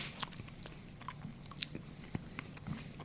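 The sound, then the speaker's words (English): Someone bites into a plant-based Hershey's chocolate bar, then chews with a few crisp, snappy crunches and soft wet mouth sounds spaced irregularly over a few seconds, fairly quiet, with no talking. “Our plant-based Hershey's chocolate bar.”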